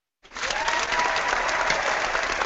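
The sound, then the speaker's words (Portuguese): Sustained applause from an auditorium audience starts abruptly and holds steady at an even level, a dense wash of many hands clapping at once with no talking over it, applauding a runner who placed fifth overall in the 84-kilometre Indomit race. “O auditório, só resta o auditório aplaudir, né, cara?”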